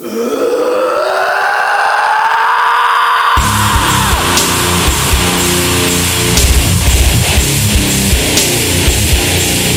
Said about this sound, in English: Give me a scream